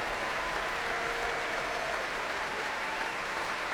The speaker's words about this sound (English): More applause before the traditional finale, which is not led by anybody on the platform, of course. Well, all of the players of this orchestra already on their feet for the national anthem and absolutely soaking up the vast applause